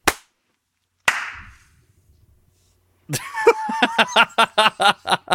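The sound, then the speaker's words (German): Two isolated sharp claps ring out, then after a pause a group bursts into ragged clapping that settles into a fast, steady rhythm of loud, crisp hand claps. “Das war eine halbe Stunde, das Klatschen war eine halbe Stunde später irgendwie.”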